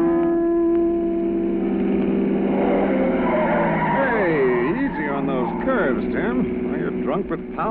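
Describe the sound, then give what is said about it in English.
A car engine hums steadily, then its new low-pressure tires begin squealing in long, wavering screeches as the vehicle swerves and corners, the squeal loud and lasting to the end. “These new low-pressure tires”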